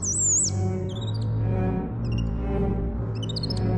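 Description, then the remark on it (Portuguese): High, whistling bird calls: a sliding tweet, then short chirping bursts recurring every second or so, heard over a steady, low musical drone. “Vivia no meio das árvores e imitava o pio dos pássaros.”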